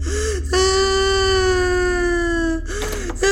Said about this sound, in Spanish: entra a casa y escucha al fondo el llanto